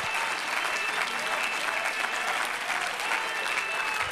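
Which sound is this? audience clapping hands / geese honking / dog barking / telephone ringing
audience clapping hands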